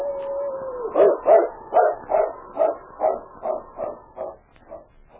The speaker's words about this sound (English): A different howl, which he recognized as a distress call of the dog he looked upon as a mate